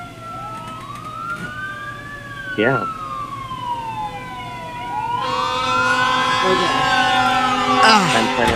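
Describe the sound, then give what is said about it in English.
Emergency sirens, heard through a phone, wail with slow rising and falling pitch sweeps, several tones overlapping and growing louder toward the end, with a brief spoken word from a person. “I get to hear the sirens through the phone. So they are audible.”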